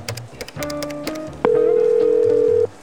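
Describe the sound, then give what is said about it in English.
A string of short electronic dialing beeps and clicks from a public telephone in a bistro, calling a Mailboxes and Stuff store. Then a loud, steady dial tone holds for just over a second before cutting off. “Taking Mario's advice about the traceability of cell phones, she used the public phone in the bistro to call mailboxes and stuff.”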